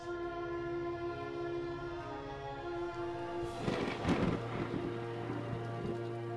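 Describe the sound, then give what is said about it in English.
A thunderstorm with steady rain, where a rolling rumble of thunder swells about midway and then fades, over a sustained low tonal drone. No voices. “There's a storm blowing in, and it's certainly not a coincidence.”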